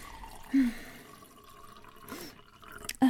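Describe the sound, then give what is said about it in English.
Wine pours into a glass, a soft, steady gurgling trickle lasting a few seconds, with a couple of brief glassy knocks near the start and end. No one speaks. “Yes, also more wine.”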